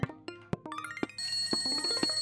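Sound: telephone ringing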